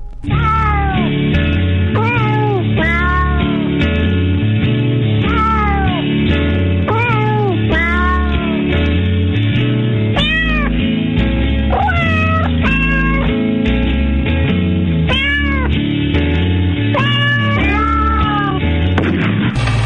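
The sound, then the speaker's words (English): A cat meows over and over, loud, each call rising and falling in pitch, with a steady low rumble underneath and no one talking. “Or if we heard it at all, it was to us like the far-off challenge of our enemy and prey, the neighbor's polar cat.”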